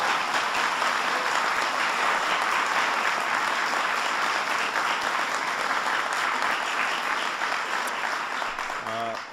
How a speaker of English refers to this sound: That's a pretty big deal. You can give them a round of applause for that.